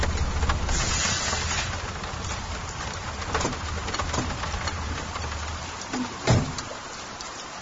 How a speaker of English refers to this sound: It'd be better if it had stopped raining, and it didn't smell so bad.